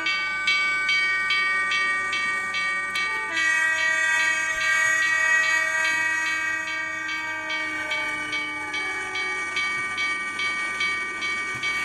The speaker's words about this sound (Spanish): Ahí viene el tren.